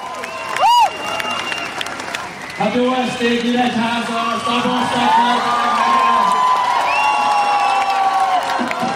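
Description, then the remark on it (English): A crowd cheers and calls out loudly and steadily at an early summer evening campaign rally for Hungarian politician Péter Modzsor in Nyíregyháza, Hungary, as he walks through it; many voices blend into a continuous roar. A sharp rising whistle cuts through near the start before the shouting swells and holds. “Péter Modzsor walks through the adoring crowds like a rock star, a dapper 43 years old.”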